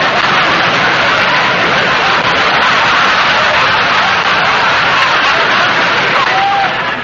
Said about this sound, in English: Oh, I'll have time for my song, all right. It's just that I can't wait for my applause. Oh, you want your applause before you sing?